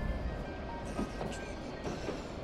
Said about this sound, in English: Pay no mind to our train's backwards motion, dear traveler. We are now passing through decades of the past.